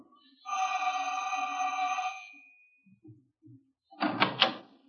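A steady electric buzz sounds for about two seconds, followed by a few soft knocks on the janitor's door of a building and then a louder clatter as the door is opened.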